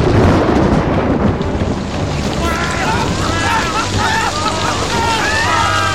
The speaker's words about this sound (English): The rain. It's something in the rain. It's burning them like acid.